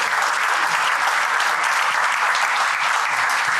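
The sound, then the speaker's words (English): Steady, dense applause from a live audience at the Black Box in Belfast in January 2023, many hands clapping loudly and continuously for a few seconds with no voices breaking through. “Cue applause.”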